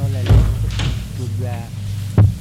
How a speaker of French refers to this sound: Il va jusqu'à la maison. Sonne à la porte. La porte s'ouvre. Il entre.